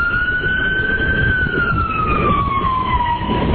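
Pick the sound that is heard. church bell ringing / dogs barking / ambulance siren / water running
ambulance siren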